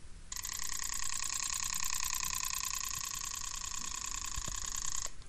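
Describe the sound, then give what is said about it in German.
A small pocket sewing machine runs steadily for about five seconds, a bright, buzzing mechanical whir with a fast, even stitching pulse, starting and stopping abruptly, with no talking. “Das war die kleine Taschennähmaschine.”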